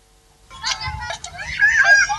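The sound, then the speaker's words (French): High-pitched shouts and cries from young children from different households ring out outdoors among green shrubs as they play, overlapping in a lively, continuous burst, with one sustained wail rising near the end. “Un parfum de vent frais accompagné des cris et des pleurs.”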